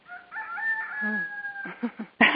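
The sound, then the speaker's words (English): A rooster crows once, a loud, drawn-out cock-a-doodle-doo that holds a steady pitch before breaking off, followed by a few short clucking notes and a brief noisy burst. “And the rooster exclamation point.”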